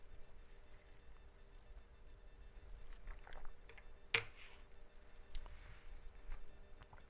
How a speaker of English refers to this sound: I need a little drink of water.